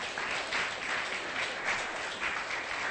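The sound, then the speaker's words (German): Steady applause from a crowd clapping for the Lord after a healing testimony, a dense, continuous wash of many hands clapping at an even level for a few seconds, with no voices above it. “Gib mal dem Herrn ein Klatschopfer.”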